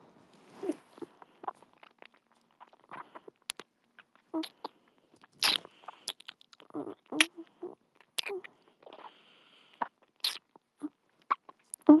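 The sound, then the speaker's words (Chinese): Crisp crunching from biting and chewing, with sharp irregular crackles and snaps scattered throughout, some louder bursts standing out against near silence. “让我帮你吃几包好不好，宝宝？”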